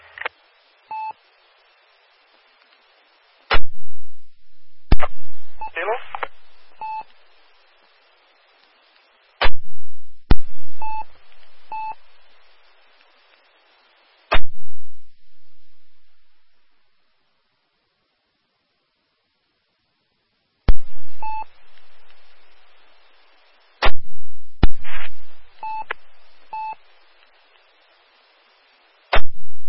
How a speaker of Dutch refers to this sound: Er is een mobiel station met 1% modulatie.